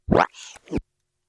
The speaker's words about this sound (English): Well, it's the breath. Here's a breath. That's me holding the left arrow across the breath, and I'm going to hold the right arrow key.